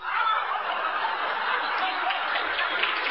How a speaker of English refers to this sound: What the hell are you clapping at now?